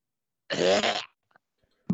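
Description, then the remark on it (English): A single loud, raspy cough lasting about half a second, made by a person imitating a cat's hacking cough, followed by quiet and the start of another burst. “I have to cough again.”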